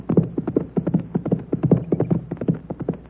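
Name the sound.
horse hooves clip-clopping past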